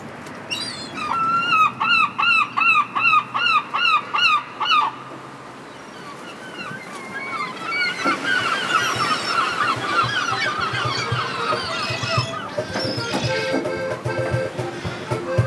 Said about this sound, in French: je cherche désespérément le cliché du son en Bretagne, des bruits de goélands. Eh bien, je n'en trouve pas comme je voudrais. Bon ben, je vais nourrir mes cocottes, c'est-à-dire les goélands. On va voir si ça les fait venir.